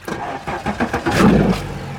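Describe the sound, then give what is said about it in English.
A boat engine runs with a steady, throaty drone that swells louder midway through, with no voices over it. The boat is off Plaquemines Parish in the Gulf of Mexico on a cloudy day in May. “On this cloudy day in May, I'm on a boat off Plaquemines Parish with the environmental group Healthy Gulf.”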